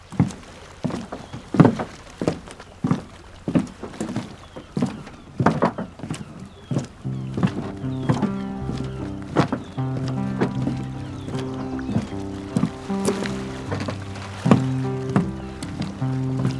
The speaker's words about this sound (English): Do you hear these footsteps now?